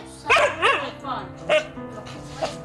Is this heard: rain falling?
no